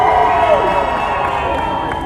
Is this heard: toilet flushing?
no